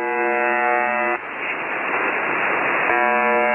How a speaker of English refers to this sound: This is a recording of a shortwave radio station that's commonly known as the Buzzer. It's broadcast at 4625 kHz, and for the most part, it plays this buzzing sound continuously.